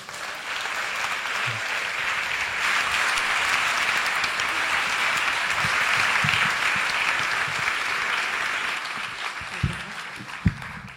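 Sustained applause from an audience, a dense steady wash of clapping holding at an even level for about ten seconds, with a couple of sharper individual claps near the end.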